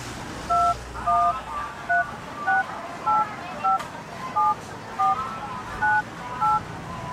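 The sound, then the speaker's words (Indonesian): A quick sequence of about eleven short keypad tones, evenly spaced as a number is dialed on a mobile phone, each a crisp dual-pitch beep over a low background hum. “Coba Bunda telepon dulu ya.”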